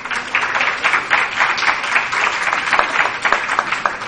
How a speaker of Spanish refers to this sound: Brindémosle un aplauso, por favor.